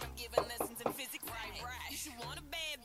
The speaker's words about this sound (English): We've knocked and no one's answering the door, so far not going so well.